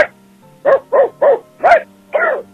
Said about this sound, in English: What? Okay, now I'm starting to think that's not even a dog. You got your little brother there doing dog noises or something. Do it again.